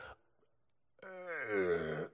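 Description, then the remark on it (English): A man's voice imitates a drunken burp: a short click, a pause, then a loud, drawn-out croaking belch about a second long that rises slightly in pitch before cutting off. “That's the drunk sound of a drunk burping.”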